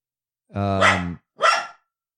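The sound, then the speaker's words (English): A possible stray dog outside, a short, squatty Jack Russell kind of mix, barks twice, a longer drawn-out bark followed by a short sharp one, fairly clear with nothing else around it. “Ryan apparently checking on the possible stray dog that's outside.”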